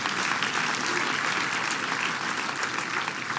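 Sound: audience clapping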